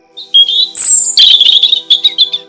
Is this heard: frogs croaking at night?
no